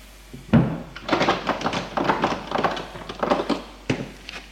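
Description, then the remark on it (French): An apartment front door shuts with a solid thunk from the landing, followed by a few seconds of metallic clicking and rattling as a key turns in the lock. “Ouf, il est sur le palier, éteint la lampe et ferme la porte d'entrée à clé.”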